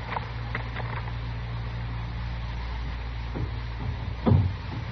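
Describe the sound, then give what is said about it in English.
A door being rattled by someone working it, not by the wind: a few light, irregular clatters early on, a pause, then a louder, heavier rattling knock near the end, all over a steady low hum. “Dillon, that ain't the wind. There's somebody working the door that way.”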